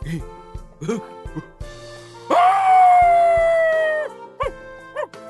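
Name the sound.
dog howling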